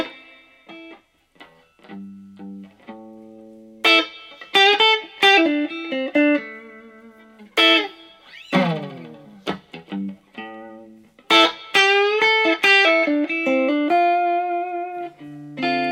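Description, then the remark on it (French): An electric guitar phrase in a minor blues in the key of A minor, single sustained notes with bends and slides, some quick clusters and a descending swoop mid-phrase, played alone with no talking. “Dans un blues mineur, on va rester en tonalité de La. Cette fois, c'est un La mineur.”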